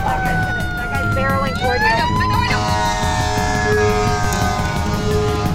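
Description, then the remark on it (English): Sirens of emergency vehicles going full tilt through a fog blare loudly and continuously, their pitched tones sweeping and shifting over a rumbling engine and road noise. “The sky is filled with plumes of gray smoke, and the only other cars out on the roads are emergency vehicles going full tilt, sirens blaring, coming at us through a fog.”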